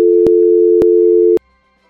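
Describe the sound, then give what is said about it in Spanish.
A telephone busy tone after the other party hangs up drones steadily and loudly, broken by three sharp clicks at regular intervals, then cuts off abruptly, leaving faint background hum. “Y colgó el teléfono.”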